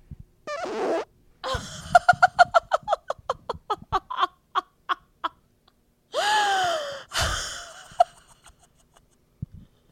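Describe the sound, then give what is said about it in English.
A short fart bursts out, followed by a long run of rhythmic, breathy giggles and a couple of loud gasping laughs, with no talking. “Let's see if I can capture my fart.”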